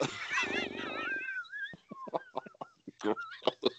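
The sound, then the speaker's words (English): A loud, brassy, wavering trumpet call like an elephant's, lasting about a second and a half, then fading into conversational voices. “Anybody hear an elephant just now?”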